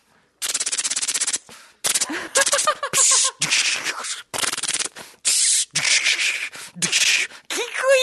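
A person mimics gunfire with their mouth: a rapid machine-gun rattle, then a string of sharp bursts and blasts with some whistling, swooping tones mixed in.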